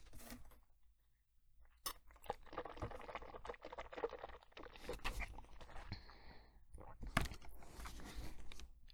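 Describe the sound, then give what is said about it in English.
Water pours steadily for several seconds, a bubbling, splashing rush broken by a few sharp clinks and knocks, with no voices over it. “Water.”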